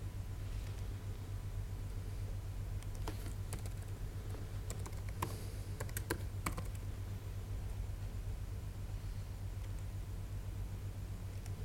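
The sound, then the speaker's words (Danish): Quick bursts of typing on a computer keyboard as someone retypes a wrongly entered URI name for a web service, clicky keystrokes clustered in the middle, over a steady low droning hum. No one speaks. “Så jeg må ind og så skrive det rigtigt.”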